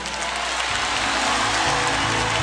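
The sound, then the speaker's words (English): An audience claps hands in praise of the Lord in a dense, steady wash of applause that stays loud throughout, with low sustained musical tones coming in underneath after the first moment. “Because see, while you clapping your hands and the devil is wreaking havoc in your home, this confuses the enemy.”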